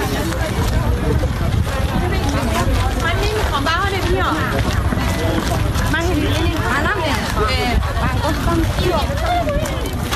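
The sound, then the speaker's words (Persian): A dense crowd hubbub of many overlapping voices chattering and calling out at once, loud and continuous throughout, with no single speaker standing out, at the east entrance of a stadium where sherbet and watermelon are being handed out. “اینجا در ورودی شرقی شربت میدن با هندونه، گوش کن.”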